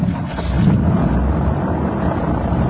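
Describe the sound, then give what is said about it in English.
A motor engine is started with a key ignition, like a car, and settles into a steady, loud, low rumble with a constant droning hum and no voices. “This thing starts up just like a car, huh? Yeah. Key and ignition and everything. Wants to start.”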